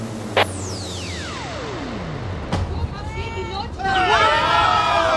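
A long falling whistle-like tone ends in a thump as the Luna 2 spacecraft lands, then a crowd breaks into cheering, the excited shouts swelling louder over the last seconds.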